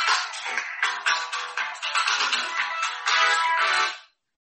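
A phone ringtone from a repeated incoming call during a meeting plays loudly and continuously for about four seconds, a bright, busy electronic melody with rapid note changes, then cuts off abruptly into silence.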